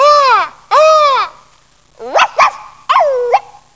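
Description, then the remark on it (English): A human voice imitates a crow, giving two loud, drawn-out nasal caws, followed by a few shorter, yelping calls, all clear with nothing else behind them. “I'm a crow.”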